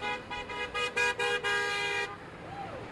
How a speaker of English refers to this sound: The workers cheer the cars whose drivers honk horn in support.